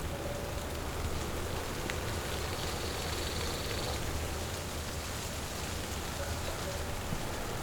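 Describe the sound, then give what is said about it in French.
Steady light rain patters softly and evenly across a Pyrenean mountain meadow at nightfall, a continuous gentle hiss with scattered drops, faint birdsong woven in, and no voices. “Pluie fine, chlorophylle, la montagne est là, à vos oreilles.”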